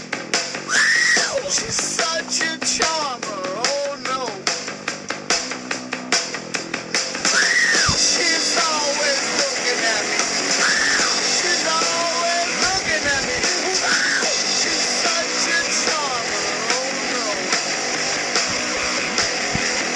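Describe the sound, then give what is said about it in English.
A loud, dense rock song with screaming vocals, high wailing cries rising and falling over distorted guitars and pounding drums, growing even heavier and more intense partway through. “This is the screaming one.”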